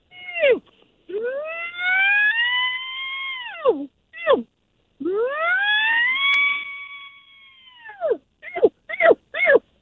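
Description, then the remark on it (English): A person imitates a bull elk call, starting with a short cow-like bleat and building into two long, high, whistling bugles that rise and hold for seconds, ending in a quick run of short chirps. “So I'll start out with the bleat, and then I'll work up into a bugle here.”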